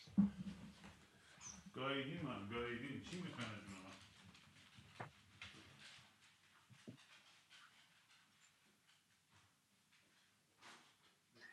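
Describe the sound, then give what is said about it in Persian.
Dogs whimper and whine, a strained high-pitched burst lasting a couple of seconds, followed by softer panting and shuffling noises that fade toward the end. “من میخوام سگا رو برم بیرون در رو باز کنم برم بچشه.”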